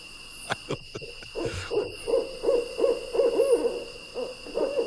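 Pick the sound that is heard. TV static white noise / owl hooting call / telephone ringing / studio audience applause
owl hooting call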